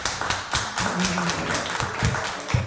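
A small audience claps steadily for a few seconds, a dense patter of overlapping hand claps at an even, moderate loudness with a few sharper slaps standing out, and no voices.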